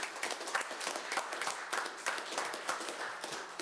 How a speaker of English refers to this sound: So could I have a round of applause for those?